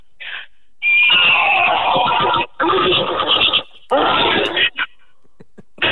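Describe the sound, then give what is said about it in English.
A person from Poland imitates a horny stallion's neigh with their voice in loud bursts: a brief opening squeal, then a long shrill whinny, a rasping middle stretch, and a final whinnying burst with short snorts trailing off. “I can make a horse and I can also make a horny stallion.”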